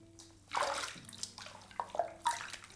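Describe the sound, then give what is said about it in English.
A hand swishes and sloshes through hot, vanilla-scented bath water in a few splashy bursts, with softer trickling movement between them and no one speaking. “Do you want to feel the water?”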